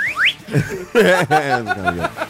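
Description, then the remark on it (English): A slide whistle gives two quick upward swoops right at the start, then several people break into loud chuckling and laughter that fills the rest. “We can do the slide whistle to lessen the sting.”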